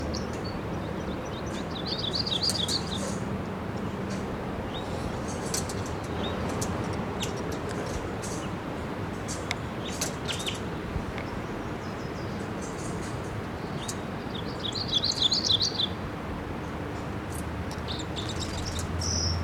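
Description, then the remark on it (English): A red male red crossbill, in a ponderosa pine about 50 feet up above the nest at a camp, gives chittering calls in two short, rapid bursts, fairly faint, with scattered sharp ticks over a steady outdoor hiss and low background rumble. “crossbill fly in here, and I hear it chittering in the camp.”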